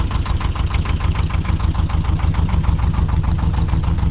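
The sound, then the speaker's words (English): A canal barge engine in Birmingham, England, runs steadily, a low rhythmic chugging with a regular thumping pulse that stays loud and even throughout, with no voices. “No, it's a canal barge in Birmingham, actually.”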